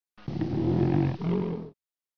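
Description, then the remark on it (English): A bear named Bruno snoring while still asleep in the forest: a deep, raspy rumble that swells and holds for over a second, dips briefly, then continues a little longer before stopping. No one speaks. “Listen, Bruno is snoring.”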